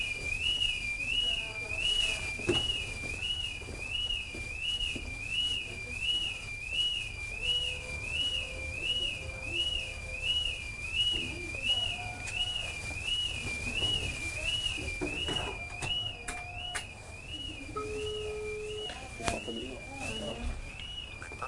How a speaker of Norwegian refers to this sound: Jeg er nede i C007, og så husker jeg ikke numret på de som har med alarm å gjøre. Men kunne du ha ringt rette person og si at nå har alarmen slått seg på igjen i C007?